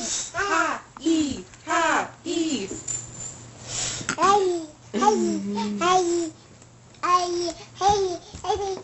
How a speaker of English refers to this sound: So that would be the toddler. Look, he just burped.